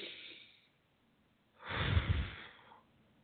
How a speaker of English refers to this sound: But if you actually sit down, have a few candles lit, and just, it's simple to do. It's just breathe in through the nose and out through the mouth.